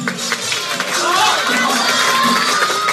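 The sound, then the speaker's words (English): A crowd cheers and shouts encouragement to a stalled writer during a timed writing contest, a dense, steady wall of voices with some whistles rising above, sustained and lively throughout, sounding enthusiastic. “The seconds are ticking by, so the crowd starts cheering him on.”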